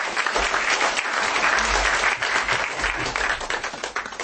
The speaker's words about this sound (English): So guys, big round of applause for Simon Park.